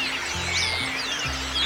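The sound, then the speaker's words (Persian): A harsh, screeching call from a bird perched on a branch, with rapid high-pitched sweeping squeals running continuously for under two seconds over a low sustained musical drone. “پرنده با صدای گوشخراشی گفت”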